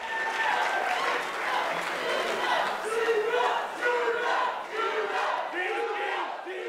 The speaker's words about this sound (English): The debate ended much like it began, with cheers and chants. Supporters trying to drown out the voice of their rivals in political philosophy by screaming even louder.